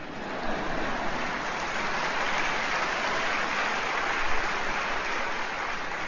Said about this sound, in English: It's going to all turn out all right. Did you know that? I'll take four claps today.